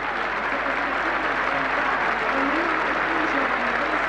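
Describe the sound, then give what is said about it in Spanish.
A large stadium crowd at a football match applauds substituted player Rodrigo Castillo as he leaves the pitch, a dense, continuous wash of clapping and crowd noise that stays loud and even throughout, with no single voice standing out. “Todos los aplausos son para Rodrigo Castillo.”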